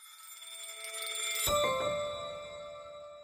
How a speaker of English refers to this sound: He spoke to me from Milan on the last day of Men's Fashion Week there, and you can even hear the church bells accompanying our conversation in the background.